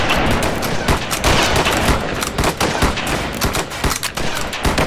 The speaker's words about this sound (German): Anlegen. Auf mein Kommando. Warten können, Schuss. Bis die Schussbahn frei ist. Feuer!